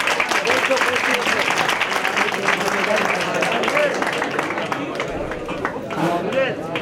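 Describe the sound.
Sustained applause from a crowd for a student who completed the Talmud tractate Ketubot. Dense clapping fills the space for several seconds at a steady loud level, with faint voices mixed in.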